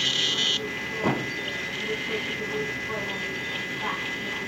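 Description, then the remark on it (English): A ship's propeller churning underwater comes through as a continuous crackly static hiss, steady throughout, with a brief brighter burst at the very start and faint tonal streaks. “So that static in the background that you hear is mostly the sound of the ship's propeller underwater.”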